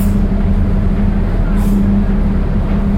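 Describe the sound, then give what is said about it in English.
A steady, droning engine rumble from heavy road traffic, with a brief sharp hiss of air partway through, like a bus releasing its brakes. “Because the traffic is coming, okay, we have to rush up.”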